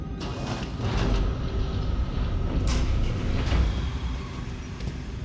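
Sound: automatic sliding door opening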